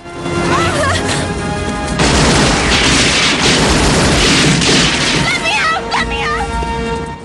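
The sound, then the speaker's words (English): Heavy gunfire erupts in a loud, dense barrage for several seconds, cracking and booming together, with shouting voices and rising, warbling tones before and after the burst. The shots are fired at a waiting Aegis helicopter on a rooftop as two men climb inside. “Forrest shoots at the chopper.”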